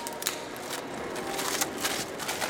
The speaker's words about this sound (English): David Navarro is tearing the tape off of the glass of a household good rental shop